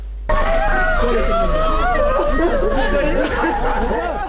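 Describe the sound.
A girl wails and screams in grief, her high, wavering cries continuous over a dense babble of other voices for several seconds.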